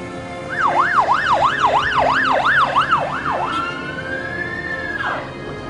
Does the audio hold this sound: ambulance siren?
yes